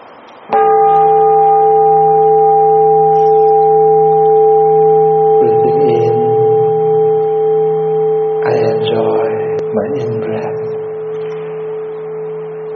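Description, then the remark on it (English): A meditation bell is struck once during a guided breathing meditation and rings on in a long, steady, resonant hum that slowly fades, with soft voices murmuring beneath it partway through. “Enjoy each of your breath in and out, along with the three sounds of the bell.”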